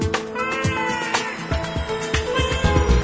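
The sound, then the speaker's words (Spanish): A cat meows in drawn-out, wavering cries over a steady musical backing with rhythmic percussive thumps, fairly loud and close throughout. “Es un gato limpiecito, real amigo y juguetón.”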